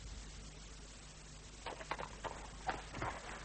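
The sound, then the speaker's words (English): A horse's hooves clip-clop in an uneven run of soft hits as the rider sets off early, starting after a short quiet stretch and continuing to the end over a low background hum. “I am ready, and my horse is impatient to be on its way.”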